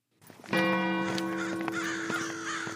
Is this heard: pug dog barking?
no